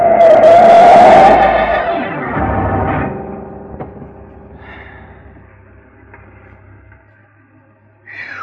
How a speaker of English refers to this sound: He moved the car up close, next to mine, and yelled something angry kids yell, and suddenly his yellow coupe shot out ahead and cut into me.